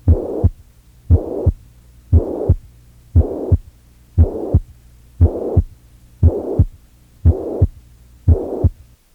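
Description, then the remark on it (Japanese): A steady, repeating heart rhythm with a soft blowing systolic murmur filling each beat, about nine cycles in a row, clear with no talking; the murmur comes from blood flowing backward as the heart's ventricle contracts. “この際、血流は心室収縮に伴って砂防に逆流するので、雑音はもちろん収縮期性です。”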